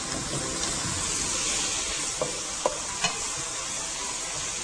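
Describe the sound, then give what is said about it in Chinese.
Steady, loud sizzling from a hot wok as a little stock is added to the pan of stir-frying carrots and mushrooms, with a few light clicks of a utensil stirring partway through; no one speaks. “好，然后发现呢，锅子又有一点这个干了，对不对？再加一点点的这个高汤。”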